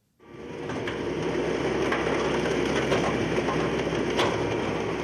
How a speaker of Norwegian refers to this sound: Det knaker godt når presset til Olas bil på Karmøy pakker sammen gamle biler. På få minutter er hele kjøretøyet blitt en kloss litt større enn en høyball.